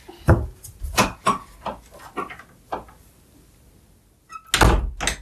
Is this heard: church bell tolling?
no